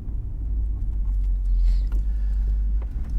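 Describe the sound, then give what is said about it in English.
A steady, low rumble of the engine of a spy car being driven to the dentist, loud and continuous with a faint brief hiss near the middle, no voices present. “But at least we get to drive the spy car.”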